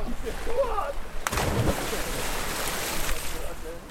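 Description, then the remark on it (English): A sudden loud splash as someone plunges into the sea, one of a group of people jumping in one by one, followed by a long rushing wash of churning water over steady surf and wind, with faint voices in the background. “Let's jump into the sea. One by one, people nervously walk towards the sea. Some jump straight in.”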